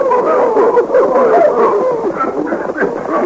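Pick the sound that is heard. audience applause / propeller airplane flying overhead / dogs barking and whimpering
dogs barking and whimpering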